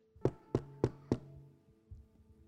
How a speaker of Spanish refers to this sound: El Señor está a la puerta y está golpeando.